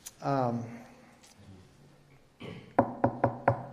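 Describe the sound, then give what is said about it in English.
A brief vocal sound at the start, then four quick, firm knocks on a neighbour's door in an even rhythm, fairly loud, with a softer shuffle just before. “所以我继续敲门。”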